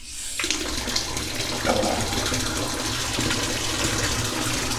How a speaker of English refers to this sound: More hot water.